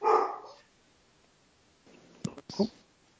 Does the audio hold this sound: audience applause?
no